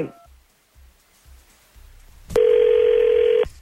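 A phone call being placed from the 102.9 The Wolf morning radio show: a few soft, evenly spaced low pulses, then a loud, steady electronic tone that holds for about a second and cuts off. No one speaks.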